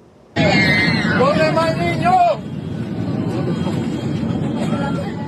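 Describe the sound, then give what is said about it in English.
Passengers scream inside the smoke-filled cabin of a Southwest Airlines flight after birds hit an engine and the nose: sudden high, wavering screams rise over a loud, steady roar, fading after about two seconds into a tense hubbub of voices under the rushing noise. “You can hear the screams inside, the smoke all around in the cabin.”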